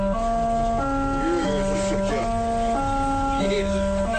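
A vehicle horn, pressed by hand, honking out a tune: a run of sustained, buzzy tones stepping up and down in pitch for about four seconds, steady and fairly loud.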